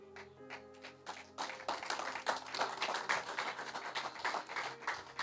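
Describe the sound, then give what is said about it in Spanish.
A sustained harmonic musical chord rings briefly, then a crowd breaks into steady, dense clapping meant for God, continuing loud and uneven to the end, with no one speaking. “Ese aplauso como que no le está saliendo, si es para Dios.”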